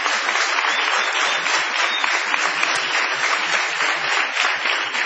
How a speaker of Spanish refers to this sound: Muy amables, mucha gente hoy en el galponcito. Vamos a prolongar la ovación para honrar a Patricio Barton.